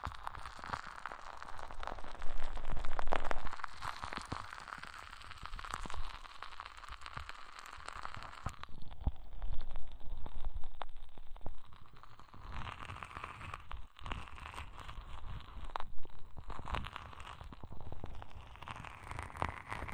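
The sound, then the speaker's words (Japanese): Intimate ASMR crackling and scraping right at the other ear after switching sides, a dense stream of small pops and rustles with occasional louder bursts, and no talking. “移動しましたので、じゃ、こっちの耳もパチパチさせちゃいますね。”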